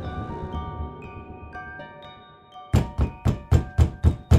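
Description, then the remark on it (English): Soft sustained tones fade under, then a sudden burst of loud, heavy knocking on the door of a house on Flower Street by a furious man: about seven hard raps in a fast, steady rhythm that continue to the end. “She flinched when she heard the loud knocking.”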